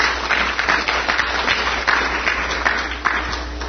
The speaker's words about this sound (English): Thanks to the panel. This was really great. Really good stuff to think about. So give them applause, please.